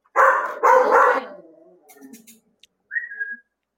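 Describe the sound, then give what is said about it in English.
A female guard dog barks loudly at a person near the house, two or three harsh barks in quick succession, trailing off into softer rumbling before a brief high whistle-like note. “is a guard dog, and she said there should be no people here.”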